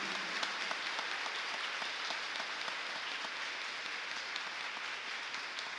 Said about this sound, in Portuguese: Vamos aplaudir o Santo Evangelho, a palavra de Jesus.